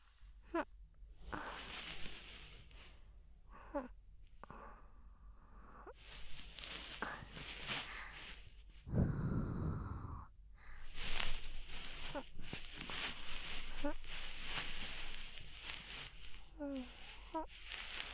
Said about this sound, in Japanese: お耳の仕上げ、梵天糖と吐息で細かい耳垢を取っていきますからね。ほーら、もふもふ入りますよ。